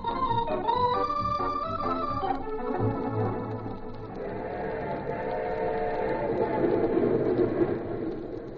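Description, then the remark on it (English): A passenger train rolls steadily along the rails, its continuous rumble and rattling clatter filling the scene at moderate loudness after a brief tonal passage at the start. “Porter, how soon does our train get in?”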